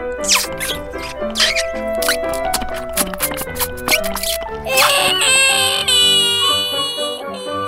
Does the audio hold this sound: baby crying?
yes